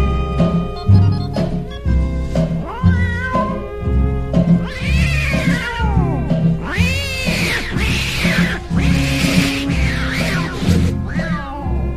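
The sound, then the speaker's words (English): Loud tomcats fighting at night, yowling and caterwauling, with long wavering cries that rise and fall and overlap like a fight, over a steady rhythmic musical backing. “Now on that very same night, now that old tomcat started a fight. And this is the way it all did sound to me.”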